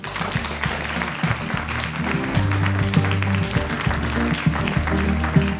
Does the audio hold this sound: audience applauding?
yes